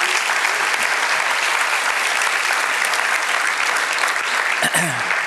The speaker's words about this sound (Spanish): Si Dios le habló, de un aplauso al Señor, que Él se lo merece.